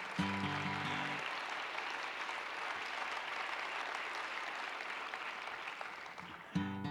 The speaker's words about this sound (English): Now I'd like to, she deserves some applause, doesn't she? Yes.